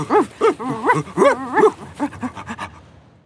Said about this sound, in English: A team of 5 dogs is going to pull the sled. They're ready to go.